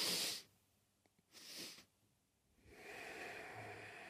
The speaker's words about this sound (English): What I like to do is breathe two breaths in and then an exhale. Looks like this.